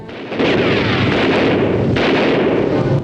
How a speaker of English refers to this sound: Giff, the farmhand, aims the rifle and Ben throws himself to the floor as he fires. Giff takes aim again and is shot. Rick's at the window and Brand shoots at him.